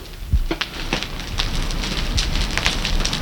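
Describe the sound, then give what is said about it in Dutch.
A large fire of a burning barricade on the Zeeburgerpad, set alight by squatters facing eviction, crackles and roars steadily, with sharp pops and snaps scattered through a dense, rushing bed of flame noise. “Ik kan eventueel wat geluiden laten horen van de barricade, zodat de mensen kunnen horen hoe knapperend vuur klinkt.”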